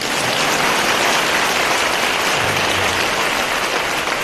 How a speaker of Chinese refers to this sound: 现在该鼓掌。